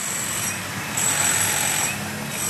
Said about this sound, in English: Like this construction site, 90 decibels.